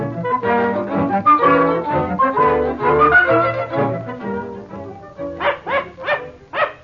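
dog barking

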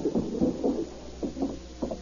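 knock on a door

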